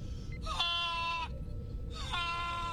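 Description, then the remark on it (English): Two loud, nasal honks of a goose in flight, each lasting under a second with a rising start, separated by a brief pause over a low steady rumble. No one speaks. “That's what a goose sounds like when they're flying.”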